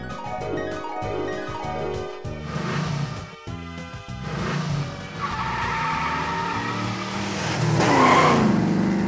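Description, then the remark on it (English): A car engine revs with rising and falling pitch, punctuated by loud tire skids, ending in a sharp, high squeal of tires near the close. No one speaks. “It's the car that ran away from us when we were learning how to count.”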